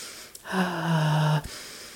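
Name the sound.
deep calming breaths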